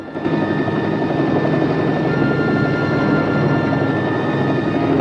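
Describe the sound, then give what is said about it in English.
A helicopter flies low over a tree-covered plateau, slowing toward a hover above a clearing, its engine and rotor making a loud, steady drone with a faint whine on top, unbroken for the whole stretch and with no voices. “flies the helicopter lower still.”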